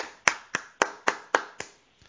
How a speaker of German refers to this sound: Das soll Applaus sein. Ich hoffe, man hat das einigermaßen gehört.